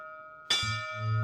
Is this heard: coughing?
no